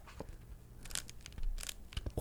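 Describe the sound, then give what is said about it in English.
A crunchy bag is pressed and squeezed, giving a few sharp, brittle crinkling bursts over about two seconds, growing louder toward the end, with no voices. “Hopefully my mic will pick this up properly, but it's so crunchy.”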